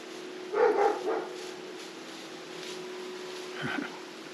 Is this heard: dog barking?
yes